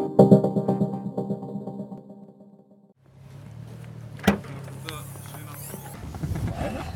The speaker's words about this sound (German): Die Bands sind gerade angekommen. Wir holen gerade unsere Instrumente aus dem Auto und tun in den Backstage-Bereich.